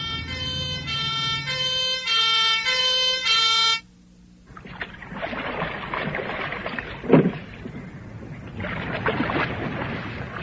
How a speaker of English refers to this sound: We've been discovered! Keep calm, man. It's anti-aircraft fire. What? Why? Listen. There's another raid taking over from last night.